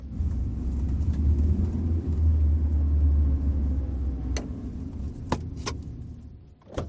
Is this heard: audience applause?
no